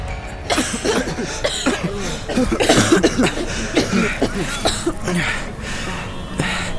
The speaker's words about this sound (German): Bis sie langsam ein Licht am Ende des Ganges wahrnehmen, keuchend und hustend, laufen sie ins Freie.